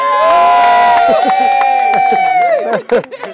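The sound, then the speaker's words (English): A loud crowd cheers at a race finish line, with sustained whooping yells, overlapping shouts and scattered claps that trail off after a few seconds. “Big buzz, big cheer, and everyone's still cheering.”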